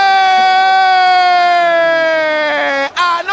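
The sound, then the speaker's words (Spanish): A loud, steady basketball buzzer blares for about three seconds at the end of the third quarter of a Copa del Rey semifinal between Barcelona and Valencia, just after a Barcelona three-pointer, with the score 51–59. Its rich, brassy tone sags slightly in pitch before cutting off abruptly, with crowd noise underneath. “Barcelona sobre la bocina, eso le da vida.”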